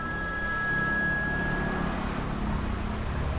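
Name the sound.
mobile phone ringing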